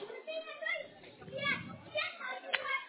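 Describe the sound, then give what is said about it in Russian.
Children's voices shout and chatter in a noisy background, overlapping continuously with a few sharper, louder yells standing out. “Слушайте, тут кричат, не поймаешь”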